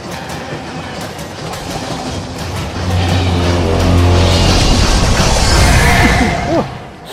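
A train rumbles past on the rails, building from a low drone into a loud roar with rhythmic clacking and a sustained horn-like tone, then easing off toward the end.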